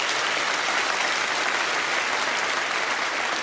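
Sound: audience applauding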